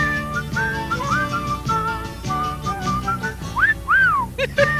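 A bright whistled jingle from an Irish Spring soap commercial plays over an upbeat instrumental backing, with short melodic phrases that end in a few rising and falling swoops. It is clear, with no talking.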